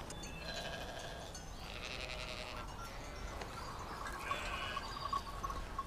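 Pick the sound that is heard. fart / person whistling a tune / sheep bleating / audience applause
sheep bleating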